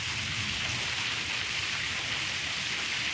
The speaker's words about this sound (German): Und hier wirkt es jetzt gerade so, als ob noch ein zweites Gewitter jetzt durchzieht, weil der Regen nimmt wieder zu.